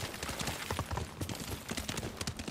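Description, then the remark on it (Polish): Steady clip-clop of the hooves of a ridden horse in a video game at a brisk, rhythmic pace, clear, with a busy background wash of noise and no speech. “Aha, tylko koń przez to nie przejedzie, tak?”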